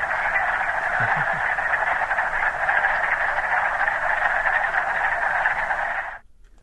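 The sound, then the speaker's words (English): A dense chorus of wood frogs clucking and chuckling together, a steady, busy wall of calls that holds for about six seconds before cutting off abruptly. “That's the wood frog.”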